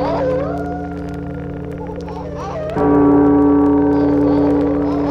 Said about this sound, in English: The wolves started howling at the rising full moon.